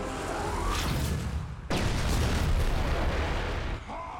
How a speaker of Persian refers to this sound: ترکیب اشعه های منفی با انرژی انفجاری برای متلاشی کردنشون کافی بود